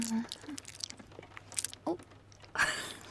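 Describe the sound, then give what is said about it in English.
Crackly grinding crunches, made while a muscle knot is being loosened, come in a few irregular bursts, with a louder, rougher crunch near the end, set against a quiet background. “I think I'm finally loosening this little knot here”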